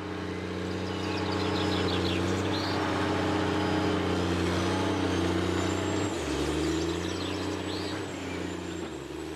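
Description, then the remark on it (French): A tractor approaching on a farm drones loudly with a deep, steady rumble that shifts pitch partway through, while birds chirp faintly. “J'entends aussi le tracteur de Jean qui s'approche.”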